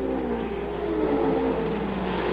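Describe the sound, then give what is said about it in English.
Loud, high-revving race car engines roar continuously, their whining pitch sliding slightly downward as the cars tear along the race track at Phoenix, steady with no voices. “this seems to be the place to train our cameras right now, because two famous names in racing, sons of famous fathers, are out here battling it out at Phoenix.”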